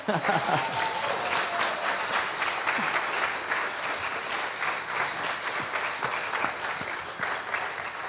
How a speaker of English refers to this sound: Have another clap.